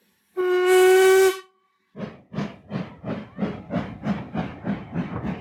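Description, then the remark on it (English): A steam locomotive, the first morning train from Oberlin into Chicago, gives one loud, sustained whistle blast, then a steady run of rhythmic hissing steam chuffs as the engine pulls away, clear with no voices. “In late February, Beauvoir arrived in Chicago on the first morning train from Oberlin.”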